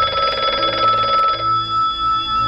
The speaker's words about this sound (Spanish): La madrugada del 16 de abril de 1971, una llamada de teléfono despertó a Gil Parrondo en plena noche. Una amiga le llamaba desde Estados Unidos para informarle de que acababa de ganar el Oscar.